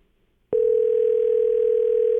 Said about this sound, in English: But actually, the phone's rang here a couple times, so. We'll see what she has to say.